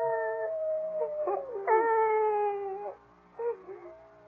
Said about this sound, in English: No, I think it's that howling coyote that's bothering you.